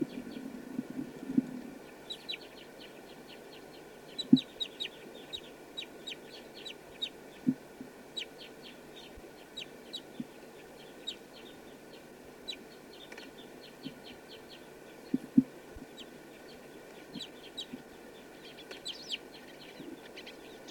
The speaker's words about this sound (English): That was bird 248.